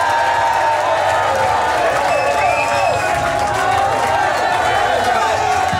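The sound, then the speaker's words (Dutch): A crowd bursts into loud, sustained applause and cheering for a musician of a band as he is announced, with steady dense clapping throughout and occasional shrill whistles rising above the roar for the full six seconds. “Mag ik als eerste een heel groot applaus voor … van …!”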